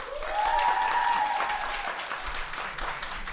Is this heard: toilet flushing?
no